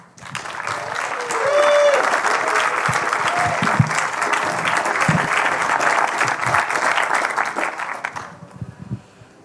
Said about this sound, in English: can we have an enormous round of applause for Malcolm and then for Tim?